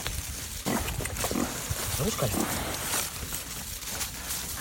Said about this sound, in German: Sie hätten durchaus Lust auf und Platz für noch mehr Trüffel. Und ihr Schwein Buja ganz sicher auch.